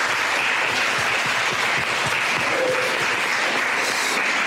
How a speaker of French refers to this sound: Bien, on va s'applaudir pour cette deuxième session. Merci.